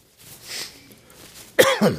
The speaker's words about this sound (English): I didn't cough a bit until I come up here. We've coughed all week.